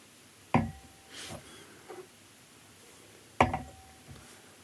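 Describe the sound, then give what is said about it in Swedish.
Two sharp glass clinks with a brief ringing tone, each followed by short, soft breathy sniffs, as someone noses cognacs, including Hennessy and Martell, from glasses. “Och vi bara sniffar igenom de här lite snabbt igen då, för att se vad vi har.”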